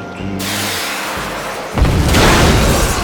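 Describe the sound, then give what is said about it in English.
A 10-ton armored truck explodes on the Broadway Bridge over the Arkansas River at Little Rock, its front wheels blowing off and bulletproof window shattering: a low rumbling engine drone gives way to a sudden heavy boom, then a dense, roaring blast of crackling noise that stays loud to the end. “The truck violently exploded as the front wheels blew off and the bulletproof window shattered.”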